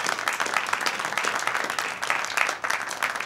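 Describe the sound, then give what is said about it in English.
A crowd applauds steadily, dense overlapping claps forming a sustained wash of noise for a few seconds at moderate loudness, with no talking over it. “And let's have a big round of applause for both of our guests.”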